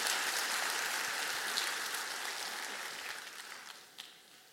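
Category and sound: crowd, audience applauding loudly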